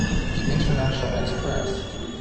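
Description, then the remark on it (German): A train, the international express no. 355 Albert Einstein from Munich operated by Alex, arrives at platform five of Prague main station with a steady low rumble and faint metallic whine, the noise holding fairly loud and even throughout, with indistinct voices murmuring in the background. “Prag Hauptbahnhof, der Zug aus München ist eingetroffen.”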